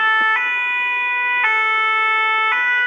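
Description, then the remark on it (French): A fire engine's two-tone siren in Wingen-sur-Moder alternates steadily between high and low notes, loud, switching about once a second with no voices over it. “Allez, un petit pimpon pour se quitter.”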